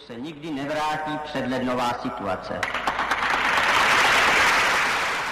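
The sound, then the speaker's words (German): A voice speaks briefly, then a mostly student audience breaks into steady, sustained applause that swells and fills the rest of the moment, many hands clapping. “Das meist studentische Publikum klatschte, doch die Massenbegeisterung aus dem Frühling 1968 wollte nicht mehr aufkommen.”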